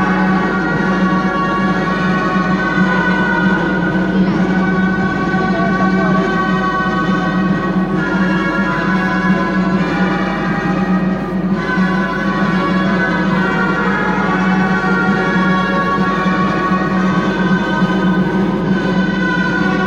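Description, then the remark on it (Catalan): Loud, reedy gralla shawm music from a group of giant-bearers and gralla players plays steadily for the city's dancing giants at a festival by the parish church, with sustained bright pitches and a constant droning texture, backed by a dense, even wash of crowd noise and citizens' applause. “Ballen els gegants de la ciutat, salten al ritme de la música de les gralles i també dels aplaudiments dels ciutadans, que no són pocs, que són presents en aquesta actuació de la colla de geganters i grallers aquí a l'església parroquial.”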